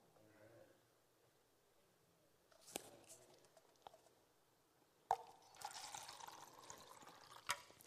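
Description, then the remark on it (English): Water pours from a jug that is about to run out of water into a container, starting with a few scattered drips and splashes before turning into a steady, gurgling stream partway through. No one speaks. “Now here's where the illustration kind of falls apart, because this jug is about to run out of water.”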